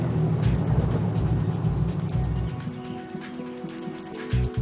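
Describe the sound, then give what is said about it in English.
A police car's engine rumbles as it rolls up to the front of a gray house and slows, its low idle steadying near the end. No voices. “Jake pulls his cop car up to the front of the gray house.”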